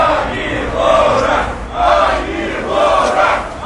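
A crowd shouts hostile cries in loud, repeated surges, roughly three swells of massed voices rising and falling in a chanting rhythm, with no single speaker standing out.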